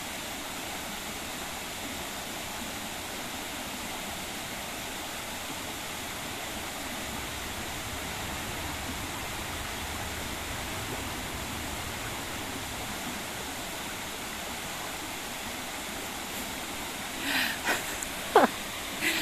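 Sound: gurgling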